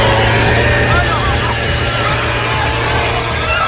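chainsaw running

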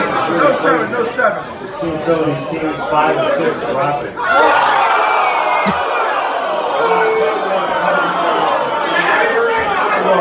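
woman shrieking

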